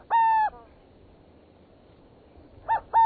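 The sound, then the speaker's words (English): A burrowing owl calls with clear, hollow hoots: one drawn-out note, a pause, then a quick short note followed by another longer one, fairly loud over faint background hiss. “With the extermination of millions of bison and prairie dogs, species such as burrowing owls that require barren ground greatly declined.”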